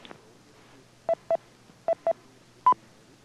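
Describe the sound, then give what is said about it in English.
Five short touch-tone beeps sent as a command to an 850 remote control unit to check whether the power amp is on: two quick pairs of identical tones, then a single slightly higher tone, each sharp and clear over a faint hiss, with no talking. “The 850 lets you define response messages for the on and off states of several of the outputs so that commanding or interrogating them reads back the message as well as the beep.”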